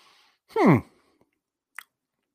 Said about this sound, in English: So let's take a sip here.